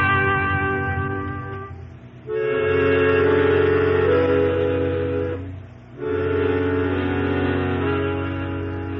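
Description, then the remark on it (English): A train idling at a depot way past midnight, due to leave, gives off a steady, droning mechanical hum with layered tones. It dips briefly twice before swelling back to full strength, and no one speaks. “Train's still there, Mr. Dillon.”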